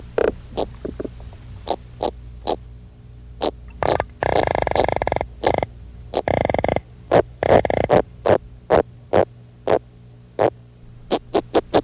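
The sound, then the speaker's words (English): Underwater fish sounds: a steady train of sharp clicking knocks, about two per second, broken by a few longer, low buzzing grunts. No voices are heard. “Fish noises sound like signals, Morse codes.”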